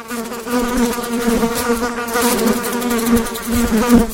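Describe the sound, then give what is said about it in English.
Steady buzzing of flies, a continuous droning hum with wavering pitch and slight swells in loudness, no voices present. “That is indeed the sound of flies.”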